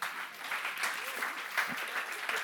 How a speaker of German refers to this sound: Einen herzlichen Applaus für die zwei.